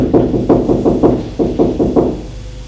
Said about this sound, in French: Elle frappe à la porte.